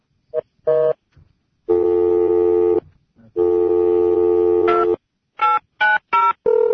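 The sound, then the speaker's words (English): Telephone keypad tones beep clearly with no one talking, as someone dials an in-house office phone from the inter-office phone list: a couple of short presses, two longer held tones about a second each, then a quick run of four more button beeps. “He's looking at the inter-office phone list. And once again, the phone is working as well as it always does in house.”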